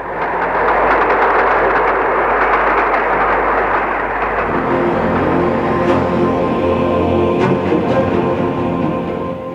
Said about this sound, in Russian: Я услышал негромкий гудок и глухой отдаленный гул. Он приближался. Да это же поезд!